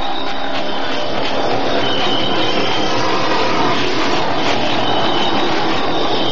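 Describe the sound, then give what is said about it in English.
A loud, steady roar of an airplane coming in to land at a floodlit landing strip, a dense engine rumble with a faint high whine running through it, unbroken for several seconds with no voices. “What's that noise? Sounds like a plane. It is a plane.”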